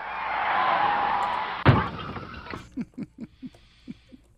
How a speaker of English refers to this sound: For those of you in the car, no, you did not just hear an accident. I mean, aside from the one over the air. Yes. Okay. Yep. Car crash. That's what it is.